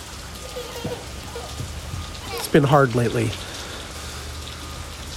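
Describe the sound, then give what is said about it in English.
Steady rain patters on a cold morning, heard from a porch, a constant hiss of drops hitting a surface, while a man speaks briefly over it in a low voice. “I'm sitting on my porch on a rainy, cold morning.”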